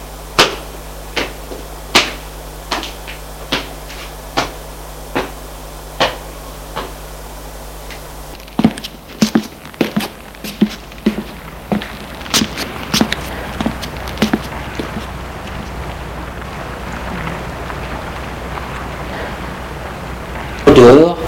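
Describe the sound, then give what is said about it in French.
Steady, evenly spaced footsteps thud down a staircase, about one every second, as a man calmly descends the stairs of an apartment building, then give way to quicker, more irregular steps and knocks against a faint background hum. “À l'étage au-dessus de chez Julien, l'homme descend tranquillement les escaliers.”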